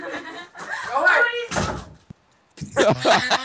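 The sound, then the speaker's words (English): Voices talk back and forth, and partway through a door is slammed shut once on a person with a sharp thud, followed by a brief pause before the talking resumes. “You slammed the...”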